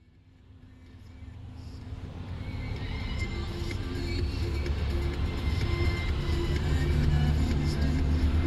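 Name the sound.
car driving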